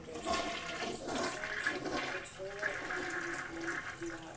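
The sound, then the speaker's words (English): A toilet flushing, a steady loud rush and gurgle of swirling water lasting several seconds, with a faint voice murmuring underneath. “My toilet needs to be flushed.”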